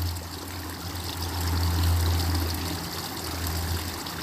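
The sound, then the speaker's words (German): A steady babbling brook runs continuously, water trickling and burbling over stones with a broad, even rush that swells slightly midway, no voices present. “Gib alles dem Wasser, dem fließenden Bach, dem Fluss des Lebens, was du nicht mehr brauchst.”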